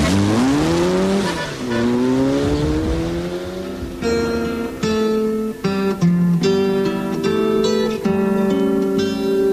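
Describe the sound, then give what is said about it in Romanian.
A car engine revs loudly and speeds away, its pitch climbing and then stepping through several gear changes. It stays prominent throughout, with no talking. “Îmi venea să o iau la goană pe urmele mașinii, să o strâng în brațe, să o aduc înapoi.”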